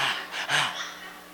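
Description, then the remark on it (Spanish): A voice imitates a dog panting, mimicking an oversensitive person who starts talking out of breath: a few quick, breathy huffs in and out, fairly loud, with no words spoken. “Y comienzan a jadear como un perro ahí”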